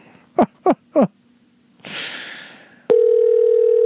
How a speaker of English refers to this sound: Oh, well, I tried. Maybe he'll call back. I don't like to leave the phone ringing like that, but I tried. Anyway, Skype does not like me tonight.